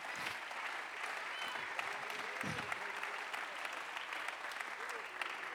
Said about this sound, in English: Somebody say praise the Lord. Clap your hands and bless his name.